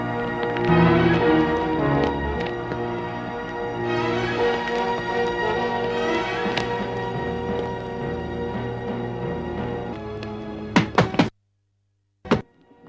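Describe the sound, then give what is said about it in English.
Dramatic music plays, then a door is battered and broken down: three heavy thuds in quick succession, a brief silence, and one final loud crash. “They've broken the door.”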